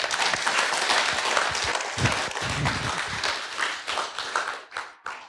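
A crowd applauds the group from Munich steadily, a dense wash of many hands clapping at once, holding loud for several seconds before thinning out and tapering off near the end.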